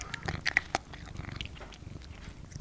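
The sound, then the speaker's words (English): The cat Raven, a female kitten not yet a year old, makes a few brief, high squeaky chirps mixed with soft clicking, chewing-like mouth noises; quiet, with no one talking. “She's still a kitten yet. Not even a year old.”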